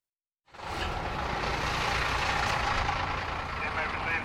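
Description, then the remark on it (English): A bus engine idles after a brief silence, giving a steady, even rumble with a broad hiss over it and no clear speech; the bus is carrying 33 inmates to a prison receiving area. “Be advised we have the Eastern Area bus with 33 inmates.”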